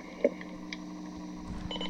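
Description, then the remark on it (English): A short low-tone electronic beep from a radio's on-off button sounds early on as it is turned off, followed by a few faint higher blips as it is turned on, all over a steady low electrical hum. “Okay, when you hear that low tone beep, it's turned off. When you hear the high beeps, it's on.”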